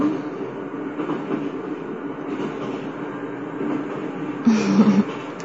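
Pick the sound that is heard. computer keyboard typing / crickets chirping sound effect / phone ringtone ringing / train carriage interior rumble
train carriage interior rumble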